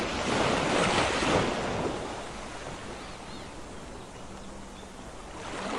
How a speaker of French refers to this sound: Écoute attentivement les sons de cet environnement paisible. Les vagues se brisent doucement contre le rivage, produisant un murmure régulier et apaisant.